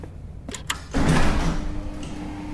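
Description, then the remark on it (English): A couple of sharp metallic clicks, then a heavy bay door slowly grinds open with a long, loud, strained rumble and a low groan that slowly fades. “The door slowly opened, strained and groaning.”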